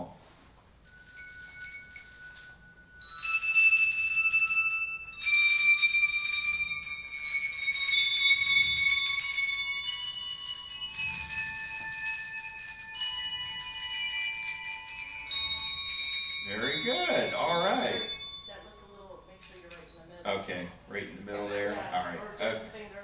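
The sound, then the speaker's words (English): Clear, bright handbell tones ring out one after another during a practice, each bell rung when its note is pointed to, each note sustaining and overlapping as the next is struck, followed by a short stretch of voices near the end. “When I point to the note, I want you to ring the bell when I point.”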